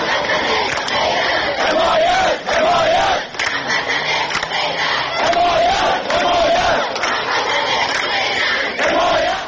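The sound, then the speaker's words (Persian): A large crowd of citizens from Ahvaz and other cities of Khuzestan province chants slogans in unison in front of the provincial governorate building over water and power cuts, loud and continuous, with rhythmic rising shouts repeating every couple of seconds over a dense roar of many voices. “در پی قطع آب و برق در برخی نقاط استان خوزستان، هفته گذشته دست کم برای 4 بار گروهی از شهروندان اهواز و دیگر شهرهای استان خوزستان در مقابل ساختمان استانداری تجمع کردند.”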